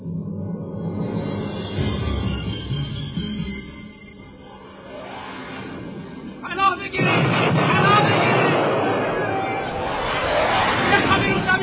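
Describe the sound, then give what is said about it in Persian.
Low rumbling and murmuring voices build until a sudden loud artillery shell blast bursts in, a shell striking a mosque, followed by sustained roaring noise and agitated crowd commotion. “از طرف دیگه مردم می ترسیدن که یکی از بمبا یا گلوله ی توپ بسیا به مسجد بخوره.”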